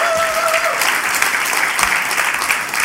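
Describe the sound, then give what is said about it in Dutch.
Steady, dense applause from a large audience for two men after a worship set, a continuous wash of clapping at fairly high volume with a brief tonal whistle-like tone near the start. “Echt, even een applaus voor die twee gasten hier.”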